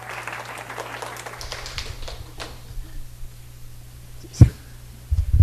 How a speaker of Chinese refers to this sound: 我们拍手哈。